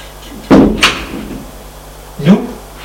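door being shut

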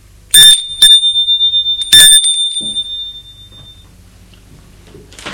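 doorbell ringing

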